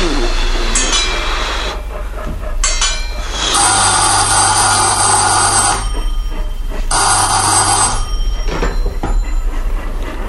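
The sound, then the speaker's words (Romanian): A telephone bell rings loudly in two long, rattling bursts separated by a short pause, over a steady low rumble that continues throughout; the phone is in the station master's office at a railway station. “Alo! Da! Aici e gara!”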